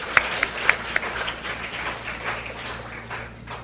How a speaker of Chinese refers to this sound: 好，我们鼓掌欢迎哈，鼓掌欢迎。